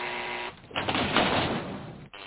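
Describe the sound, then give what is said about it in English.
A door entry buzzer, pressed to open the door, sounds with a harsh, raspy electric drone lasting over a second, preceded by a brief steadier hum, with no voices. “I buzzed it. Open the door when I buzz it.”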